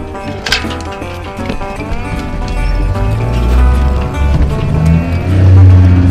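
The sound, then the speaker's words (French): The motor of a Swedish-made boat is started and rumbles into life, its deep, steady drone swelling louder over a few seconds, with light clattering and faint voices in the background. “alors, on a mis le moteur.”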